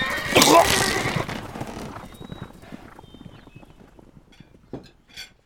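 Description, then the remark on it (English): Marshal Drew pops a whip loudly over the heads of a team of horses; a horse whinnies loudly at the start, then hooves clop and shuffle as the team moves off, the sounds gradually growing fainter with a few scattered knocks. “Someone handed Marshal Drew a whip, and he raised it up, then popped it loudly over the heads of the team of horses.”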